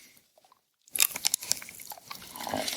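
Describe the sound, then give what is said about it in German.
After a moment of near silence, teeth bite into a piece of chocolate with a sharp snap right at the microphone, followed by a run of crisp, crackly crunches and chewing clicks. No one speaks. “Und das ist ungefähr das, was ich jetzt hier mache, wenn ich ganz nah am Mikro gehe und in dieses Stück Schokolade beiße.”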